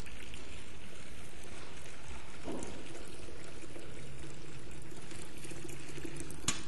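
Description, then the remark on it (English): Water pours steadily into a little plastic bowl used for baptisms, a continuous splashing, gurgling rush that stays fairly loud for several seconds, with no voices over it. “Water. I'm not going to pour it all in because I'll save some for the baptism.”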